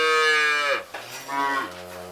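A bull calf moos twice in close succession, loud, each call a drawn-out nasal bellow that dips in pitch, heard alone without any talking inside a cattle barn.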